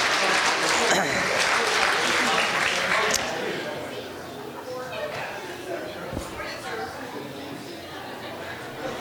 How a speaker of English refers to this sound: Welcome to our visitors. Let's give our visitors a hand clap this morning.